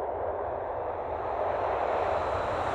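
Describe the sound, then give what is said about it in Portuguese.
A steady, loud airplane engine roar fills the whole moment, a broad droning whoosh with a low rumble that swells slightly partway through, like a jet passing as a transition effect. “Então, vamos pegar o avião de novo para saber como foi esse trabalho de reabilitação no Brasil”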